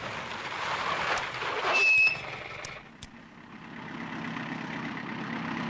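Two tractors slowly crawling at a loading ramp in a forest, their heavy engines rumbling steadily, with a brief louder swell and a few sharp clanks early on, then settling into a low, continuous drone. No one speaks.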